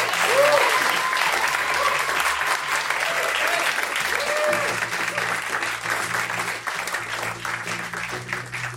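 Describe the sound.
A live audience applauds loudly and steadily for several seconds, a dense wash of clapping with a few faint voices and a low hum underneath, easing off slightly toward the end.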